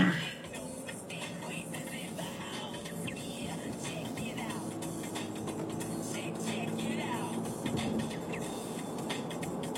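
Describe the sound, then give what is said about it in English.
Steady roar of cars passing by, a continuous low rumble of traffic that swells slightly toward the end, loud throughout. “Oh, cars, come on.”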